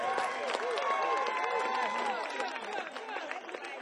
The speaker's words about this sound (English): Okay, without further ado, ladies and gentlemen, we're going to keep moving right along. Let's give the band another nice round of applause.